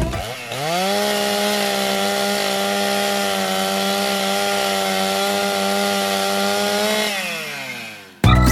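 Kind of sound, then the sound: tool, chainsaw cutting wood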